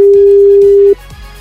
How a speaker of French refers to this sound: Le téléphone sonne quelque part, c'est peut-être le vôtre.